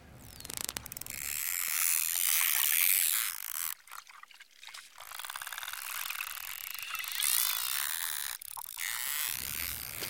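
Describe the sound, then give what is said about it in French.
Rapid trains of dolphin echolocation clicks blur into a dry, ratchet-like buzz, steady for about ten seconds, with a brief stutter midway. No one speaks. “Ils font des clics d'écholocation.”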